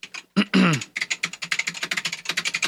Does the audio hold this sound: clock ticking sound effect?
no